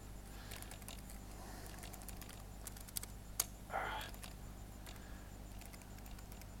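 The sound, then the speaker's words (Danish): Faint, irregular key taps on a keyboard as a personal code is typed in again while uploading a signed app file: a few light clicks followed by a sharper one and a brief soft rustle, over a low steady hum. “Så jeg skal skrive mit kode over igen.”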